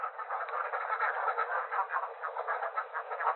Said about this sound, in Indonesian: Ramai sekali suara bebek-bebek ini.